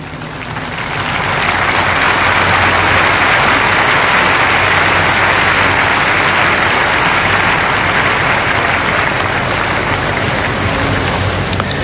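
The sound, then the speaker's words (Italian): A large crowd applauds Cardinal Pietro Parolin's homily at a Mass for Pope Francis on the second day of the Novendiali, in a steady, dense roar of clapping that swells in after the first second and holds at full strength throughout, with no voices heard over it. “Un applauso, come avete sentito, ha accolto le parole del Cardinale Pietro Parolin nella sua omelia in questa celebrazione eucaristica nel secondo giorno dei Novendiali, questa messa in suffragio per Papa Francesco”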